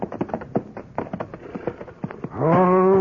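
horses

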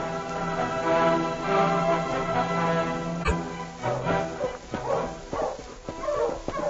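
dog barking and whimpering

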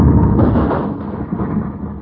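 bomb explosion

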